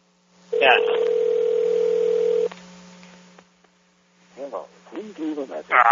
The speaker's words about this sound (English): why didn't you pick up the phone, eh?